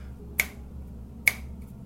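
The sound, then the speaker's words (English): Two sharp finger snaps, made deliberately to test sound removal in Adobe Audition, spaced under a second apart, crack out clearly over a low, steady background hum, with no talking. “Here's three snaps.”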